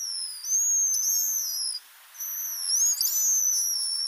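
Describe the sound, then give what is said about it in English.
High, thin whistles and trills from a pigeon guillemot, a black seabird of the North Pacific, rising and falling in two bright phrases separated by a brief pause, clear with no other sounds. “Although many seabirds utter groans and croaks, the pigeon guillemot produces this lovely series of trills and whistles.”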